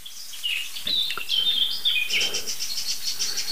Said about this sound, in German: Und der Auslöser muss dort sitzen. Ob das jetzt der gleiche Greif ist, das können wir nicht sagen, weil was die Vögel uns sagen ist, hier ist ein lokaler Alarm und ich sehe ihn. Also hier ist eine lokale Gefahr.